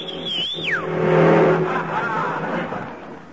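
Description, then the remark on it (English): A shrill whistle to hail a taxi slides downward, then an empty taxi cab roars past at about 40 without stopping, its engine noise swelling loudly and fading with a dull, rushing hum. “Wouldn't stop, and he had an empty cab.”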